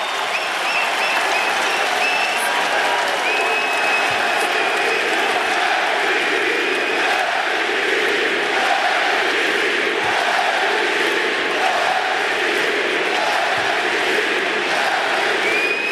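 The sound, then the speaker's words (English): A large arena crowd at a basketball game roars and applauds continuously as Curry, fouled, urges them on; a dense wall of clapping and cheering stays loud and steady throughout, with occasional whistles cutting through. “Curry threw it up, and Curry wants the crowd to get into this.”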